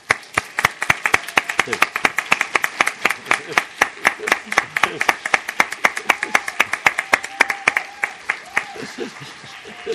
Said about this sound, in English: Now, I do want to be clear. The staff standing are not in applause that he's leaving. It's in applause for the service.